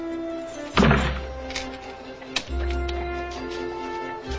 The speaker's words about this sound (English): Downstairs, he stoops as he comes out the low front door and locks up.